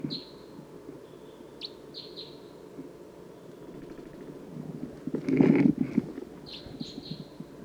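A wild orangish or yellowish bird calls in thin, high chirps and short whistled notes, repeated in scattered bursts over a steady low background, with a brief louder rumbling thump partway through.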